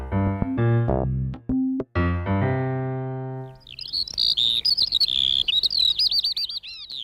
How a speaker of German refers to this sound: Es handelt sich hierbei um die Feldlerche.